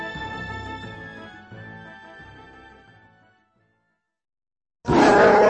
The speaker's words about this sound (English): Chewbacca roared his rage.